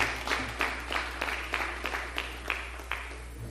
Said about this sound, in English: Let's give God a hand clap of praise in this place. Amen. He's worthy as we stand to our feet.